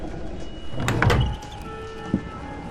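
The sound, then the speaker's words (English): An upstairs door swings open with a brief creaking, sliding scrape and a low rumble, followed by a short knock as it settles, with no one speaking. “Upstairs, Phil opens the door.”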